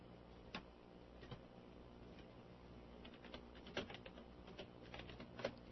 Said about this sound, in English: Just typing there for a minute. Just bear with me.